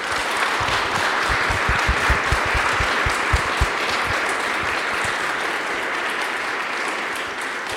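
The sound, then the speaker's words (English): An audience applauds the poets steadily for several seconds, a dense wash of many hands clapping with a few sharper individual claps standing out early on, holding at an even, fairly loud level throughout. “Can we please give our poets another round of applause?”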